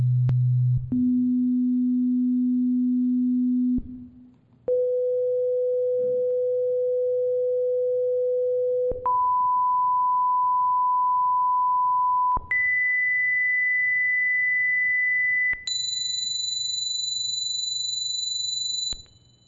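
A series of steady pure test tones at the one-third octave band center frequencies, played through speakers, each held for a few seconds, steps upward in pitch from a low hum at 31 hertz to a high, piercing whistle. The tones are loud, with no talking.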